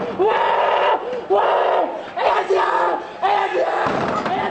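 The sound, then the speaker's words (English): A large angry crowd yells and chants at an embassy gate in Monrovia, hurling rocks and bottles, in loud, surging waves of overlapping voices that rise and fall every second or so, continuous throughout. “And an angry crowd was hurling rocks, bottles, and their cries at the embassy gate.”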